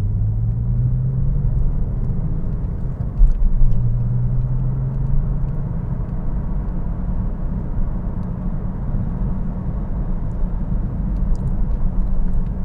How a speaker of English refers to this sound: You know, I know I'm not supposed to podcast in this car. This car is just so much fun to drive. Even when you're not hooning around like a maniac, it's such a pleasure to drive. I just love this car.